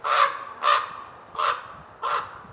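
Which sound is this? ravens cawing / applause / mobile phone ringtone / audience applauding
ravens cawing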